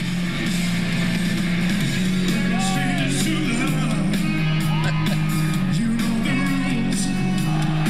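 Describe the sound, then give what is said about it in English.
A loud, steady roar of a cheering crowd with scattered yells over live music, and a low sustained tone droning underneath the whole time. “The crowd's into it.”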